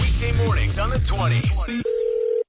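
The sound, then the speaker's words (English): Brief voices give way to a steady, loud telephone tone on the line as a call is dialed, a single sustained beep lasting about half a second before the sound cuts off. “It's another phone tap.”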